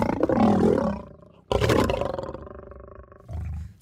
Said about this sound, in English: And as we were looking at the different animals, we came across the lion's cage. And as we walked up to the lion's cage, it started to roar.